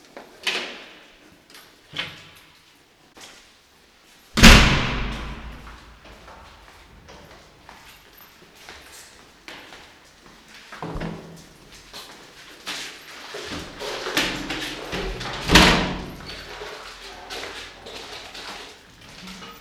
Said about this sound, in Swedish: Då ska vi gå ut genom dörren.